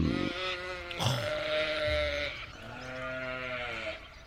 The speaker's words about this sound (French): Alors je les baisse, parce que j'ai au moins ce pouvoir de pouvoir faire taire les moutons